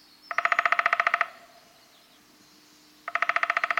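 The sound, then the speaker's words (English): A Wilson's snipe gives two bursts of rapid, evenly pulsed calls, each about a second of quick, loud, harmonic notes, separated by a couple of seconds of quiet hiss. “And the Wilson snipe, like the one we're hearing here, probes deeply for earthworms, working a long, slender bill that is nearly as long as its body.”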